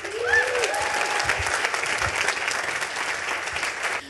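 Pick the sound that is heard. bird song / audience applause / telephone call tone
audience applause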